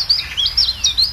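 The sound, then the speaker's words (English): A chiffchaff calls with a quick run of high, thin chirping notes in an even, repeated rhythm, clear, with no voices present. “This is the call of the chiff-chaff.”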